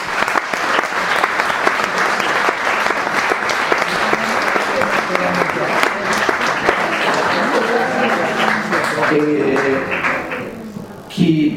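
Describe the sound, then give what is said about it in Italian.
Sustained audience applause for an author, a dense rattle of many hands clapping at steady loudness for about eleven seconds, tapering briefly near the end with a few faint voices beneath. “Bene, se non avete domande io direi facciamo un bellissimo applauso al nostro autore.”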